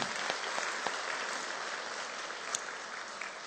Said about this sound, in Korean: 우리 박수 한번 합시다.